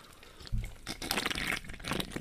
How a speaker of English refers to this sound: Make sure you slurp.